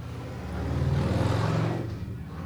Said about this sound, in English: Like that motorcycle launching off into the next thing.